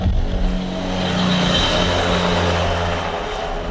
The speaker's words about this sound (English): As you can see, there's a motorcycle here in front of us of a rather new make and model.